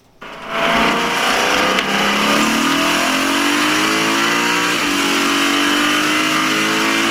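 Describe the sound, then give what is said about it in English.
A loud racing car engine revs hard, heard from inside the vehicle, its pitch climbing steadily as it accelerates through the gears in one continuous roar with no talking. “Yeah, here's car racing interior.”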